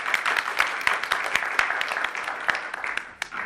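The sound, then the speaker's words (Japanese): Steady applause from an audience at a gathering, welcoming the opening address, many hands clapping densely with sharp individual claps popping out, sustained at an even level throughout without pause. “拍手でお願いします。”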